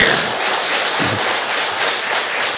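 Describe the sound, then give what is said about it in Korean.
A church audience applauds steadily, a dense, even wash of many hands clapping at once that stays loud and sustained for a few seconds with no voices over it. “네, 박수 한번 칩시다.”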